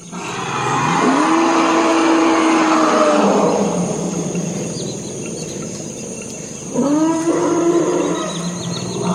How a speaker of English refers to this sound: That's from the Congo. Those are forest elephants. This is about 3 o'clock in the morning. These particular recordings reflect a very unique kind of soundscape. There are very few places in the world where an elephant would go to this kind of wetland